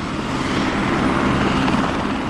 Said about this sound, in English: Of course, as chopper tours increased, so did the noise complaints.